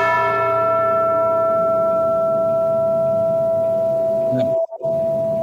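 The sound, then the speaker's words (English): A single heavy bell tolls in a hard rock or metal song, with a long, ringing decay, its bright overtones slowly fading over a low rumbling backdrop before a brief cut near the end. “How many bells do you know of that are in hard rock or metal songs?”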